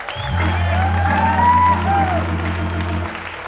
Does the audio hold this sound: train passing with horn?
no